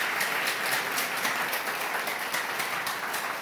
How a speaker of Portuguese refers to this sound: Vamos louvar o Senhor nessa noite, meus irmãos. Aplauda o Senhor aí.